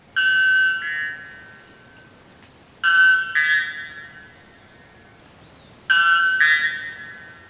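Three loud, metallic, ringing calls of a white bellbird arrive at roughly three-second intervals, each a bright, harmonic-rich blast that quickly fades, with a faint steady high tone lingering between them.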